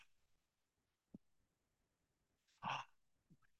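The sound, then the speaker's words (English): A single audible breath, a short, airy rush of inhaling and exhaling, illustrating how saying the word Yahweh in ancient Hebrew was meant to simulate breathing, stands out in otherwise near-silence, with a couple of soft thumps around it and no talking. “And I learned, like, in ancient Hebrew, saying the word Yahweh was meant to simulate breathing, inhaling and exhaling.”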